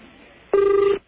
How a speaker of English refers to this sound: Oh, wow. That sounds like a ring. Sounds like an underwater ring. I love that ring.